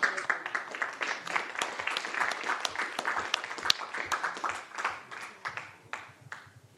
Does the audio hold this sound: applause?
yes